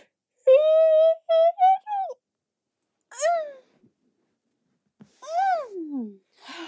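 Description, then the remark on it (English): A person lets out several drawn-out, voiced yawns: a long sustained groan, then shorter sighing yawns that slide downward in pitch, separated by brief silences. “I can yawn like an adult.”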